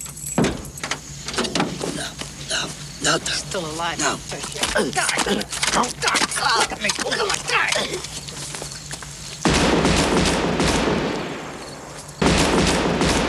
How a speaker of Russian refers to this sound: Выстрелы уже излишние, Джимми просто не может отказать себе в этом удовольствии.